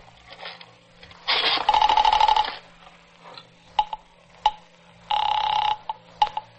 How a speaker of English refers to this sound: I reached for the phone.